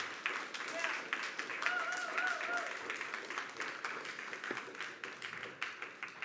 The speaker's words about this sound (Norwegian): Vær så god og sitt, og skal vi gi deg en god applaus.